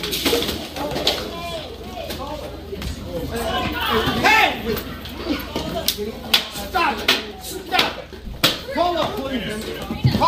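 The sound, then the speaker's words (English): Steady crowd noise in a Panera restaurant: many overlapping, indistinct voices chattering at once, punctuated by sharp clinks and clatters of dishes throughout. “The Panera, just the ambient noise of the Panera.”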